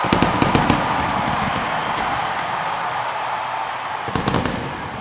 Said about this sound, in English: So there you go. And the fireworks are still going off.